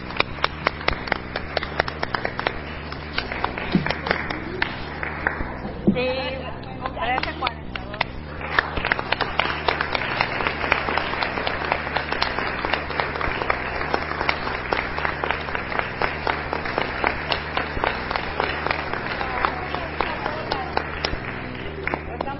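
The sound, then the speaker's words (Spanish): A large audience stands and applauds loudly and steadily for the whole stretch to close a commemorative women's event, dense overlapping claps with a few voices mixed in underneath. “Así que les pido un aplauso fuerte y nos paramos para cerrar.”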